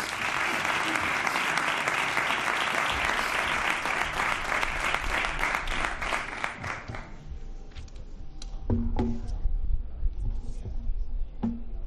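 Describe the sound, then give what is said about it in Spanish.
An audience at Real Betis's Estadio Benito Villamarín applauds the Betis president, Don Ángel, as he is called to open the event, a dense wash of many hands clapping for about seven seconds, then thinning out into a few scattered claps and low murmurs. “Don Ángel, un aplauso, por favor.”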